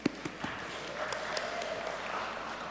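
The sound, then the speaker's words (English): An audience at a Normandale church service applauds in a steady, dense patter of many hands, opening with a few sharper isolated claps before settling into an even, moderate wash of clapping. “Is it awkward when they clap for you?”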